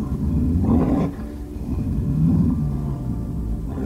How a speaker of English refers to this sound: A guttural roar swept across the grass. Bridger roared back.